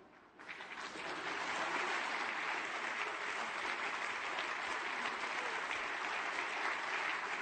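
Sustained applause from guests at a partnership ceremony, clapping while waiting for midnight on April 1st: a dense wash of many hands clapping that swells within the first second and holds steady and loud for the rest, with no voices standing out.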